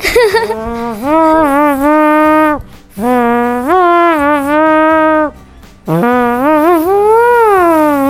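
An elephant trumpets out the wedding march in three long, loud, blaring phrases, its pitch stepping up and down like a melody, with brief pauses between them and no talking.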